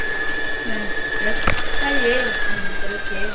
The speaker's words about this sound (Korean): 재봉틀이 바쁘게 돌아가고 집안을 꾸미는 다양한 생활용품 만드는 것을 가르치는 홈패션 학원입니다.